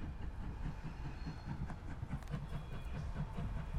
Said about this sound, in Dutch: Hij komt eraan. Hij gaat nu naar een andere baanvak? Hij komt hier langs, precies in dit stukje spoor.